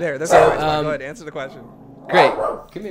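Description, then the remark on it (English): A pet dog at home gives two drawn-out, loud barking and growling vocalizations, one early and one near the end, while a person talks to it in between. “Yeah, this is my dog, and you hear her growling.”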